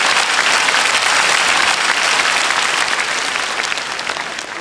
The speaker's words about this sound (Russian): Видите, вам девушка аплодирует, практически можете кредит выдать.